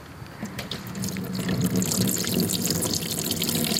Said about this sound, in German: Mach mal Wasser rein, dass man es noch eben hört, bevor die Musik läuft. Ja, das mache ich nochmal gleich. So. Ich halte das Mikro rein.